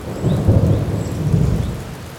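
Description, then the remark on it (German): Steady rain patters down in a park at the edge of town while a low, distant thunder rumbles and swells beneath it, no voices present. “Es regnet. In der Ferne grummelt ein Gewitter.”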